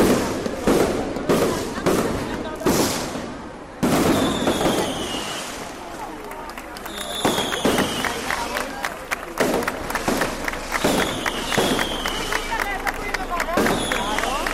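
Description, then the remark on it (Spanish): Fireworks burst repeatedly outdoors in the Floridablanca garden in Murcia, Spain, as a traditional farewell to the patron saint, sharp loud bangs and crackles arriving in irregular volleys, with a crowd murmuring and voices audible in the background throughout. “Y ayer era despedida también, como es tradición, con los fuegos artificiales que sonaban así en el jardín de Florida Blanca.”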